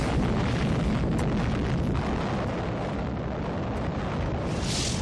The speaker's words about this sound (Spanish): La explosión de la bomba Little Boy mató a 80.000 personas en el acto